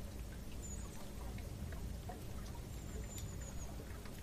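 Light drizzle patters steadily outdoors, a soft continuous hiss of fine drops with a low rumble of wind underneath and a few faint high chirps, no voices.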